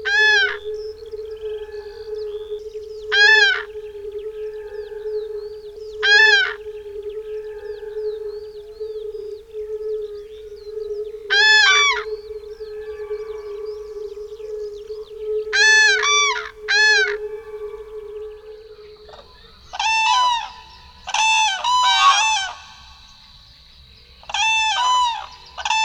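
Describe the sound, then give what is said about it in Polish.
A pair of cranes at their breeding ground give loud, trumpeting klangor calls announcing their territory, in repeated bursts, some in quick doubled pairs, growing denser toward the end and echoing off a nearby alder swamp forest, over a steady low humming chorus of fire-bellied toads and faint song of a corn bunting and a skylark. “Głos ten, zwany klangorem, odbija się echem od ściany pobliskiego olsu.”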